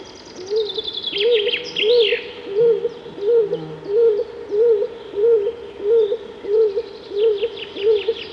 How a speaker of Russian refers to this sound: Это лесной голубь Клинтух. Его воркование услышишь только в старом глухом лесу. Голубоватое оперение Клинтуха почти не видно среди густых ветвей.